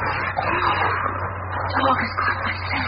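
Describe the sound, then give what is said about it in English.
A dog growls low and steadily for a few seconds in an automobile junkyard, its rumble half buried in a thick, hissing background of noise with a constant low hum. “What is it, boy? Why are you growling? There's nobody here. A dog never growls for no reason.”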